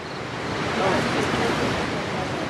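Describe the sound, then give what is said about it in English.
Yosemite Falls, North America's tallest waterfall, in Yosemite, roars steadily near midnight under a full moon, a dense, continuous rush of water that holds an even level throughout with no breaks or distinct splashes. “It's nearing midnight, and the full moon is bathing North America's tallest waterfall in its milky glow.”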